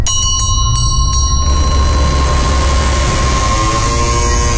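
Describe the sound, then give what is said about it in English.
A doorbell chimes with a few quick ringing strikes, then its bright tones hang and fade over a steady low rumble, with no voices. “Your giant head is in the way of the doorbell.”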